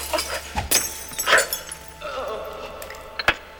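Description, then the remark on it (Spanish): Mirror glass shatters in a few sharp, bright crashes, followed by scattered tinkling fragments and a final sharp crack near the end, loud. “Pero me encuentro con un espejo que se parte.”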